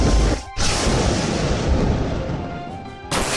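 A loud, crackling video game lightning attack effect: a booming, thunder-like blast that cuts off briefly, roars on for a few seconds, then hits again sharply at the end, with no talking.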